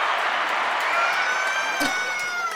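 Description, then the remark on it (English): A steady wash of applause and cheering fills the whole stretch, loud and continuous, with high whoops or screams rising above the clapping, celebrating the announcement of a published 30-day devotional prayer journal, The Cultivated Woman. “Let me get back to that applause. Okay, so just pause for the applause for me, okay?”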